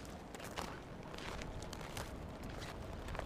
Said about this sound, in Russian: Вот сейчас все бросила и пошла в лес рядом с домом гулять. Здесь очень здорово. Здесь солнышко так светит, и снег лежит, и, может, слышишь, как хрустит.